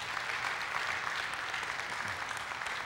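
Steady audience applause in appreciation of daycare workers, a dense wash of many hands clapping at an even, fairly loud level throughout, with no voices standing out.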